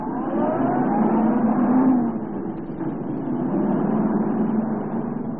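A police car engine revs up and pulls away as the car is moved off the highway to face west, its steady mid-pitched roar rising and shifting in pitch as the vehicle gets moving, loud with no talking.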